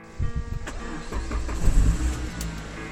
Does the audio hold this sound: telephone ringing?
no